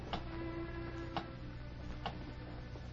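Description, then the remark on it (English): A big clock ticks slowly and steadily, about once a second, three sharp clicks standing out over a low, constant room hum. No one speaks. “The third man, still wearing the white apron of a bartender, looked nervously from the bedroom door to the big clock.”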